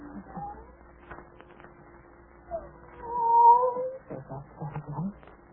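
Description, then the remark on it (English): A cat lets out a single drawn-out meow midway through, clear, with muffled voices and low room noise around it. “There's that cat again.”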